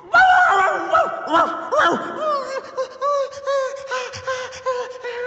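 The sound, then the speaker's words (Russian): A dog shut below ground behind a garden wall barks frantically after a boy whistles through a vent in the wall, the barking filling the garden: a rapid, unbroken string of high, excited yelps and barks that barely pause for about five seconds. “Неистовый, срывающийся лай сразу наполнил весь сад, отозвавшись во всех его уголках.”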